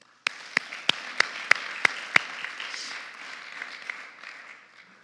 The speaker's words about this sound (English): So without any further ado, I'd really like you to put your hands together, and let's let the audio really ring out all this applause when we bring up